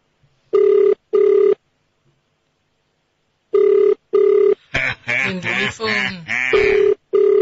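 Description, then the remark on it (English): An outgoing call rings on the line, steady double-pulse ringback tones repeating twice, then a voice answers and talks loudly while one more ring sounds underneath. “It's ringing.”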